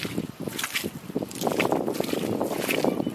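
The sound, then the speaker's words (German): Wet, sucking squelches of footsteps through thick, firm mud, each step half stuck, a quick irregular series of sloppy thuds that blur into a continuous sloshing mess, with some wind rumble underneath. “Und wenn man sich Videos anschaut und diese Schritte hört, das ist so eklig, das ist immer nur so.”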